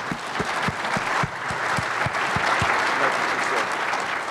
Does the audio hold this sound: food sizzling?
no